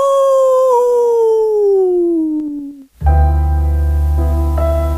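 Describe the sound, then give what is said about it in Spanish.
A long, loud werewolf howl slides steadily downward in pitch for about three seconds, then cuts off into a sustained, low, droning musical chord. “El hombre lobo. ¡Aú!”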